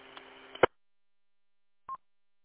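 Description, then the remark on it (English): A short burst of radio static with faint tones cuts off in a sharp click, then after a pause a single brief electronic beep sounds, fairly loud. “Well, you know, some of these radios and that, they got a thing in there for, you know, when you do your tones and stuff like that, or you just don't have that on it.”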